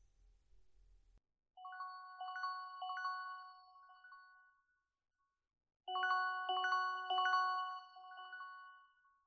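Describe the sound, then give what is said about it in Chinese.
A phone ringtone for an incoming call plays a bright electronic melody in two bursts of about three seconds each, separated by a short pause. The ringing is clear and alone, with no voices. “这个时间打来电话。”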